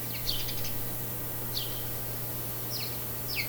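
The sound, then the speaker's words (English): Small pet birds chirp in short, bright bursts, a quick fluttering trill first, then scattered single chirps, fairly soft, over a steady low background hum with no talking. “Morning, birds.”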